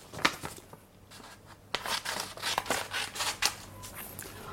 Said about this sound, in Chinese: 第三十二个，剪刀。我有一把剪刀，我在剪纸。